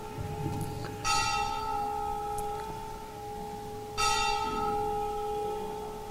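A church bell rings out with two strong strikes about three seconds apart, each leaving a long, shimmering hum that sustains between them. No voices are heard.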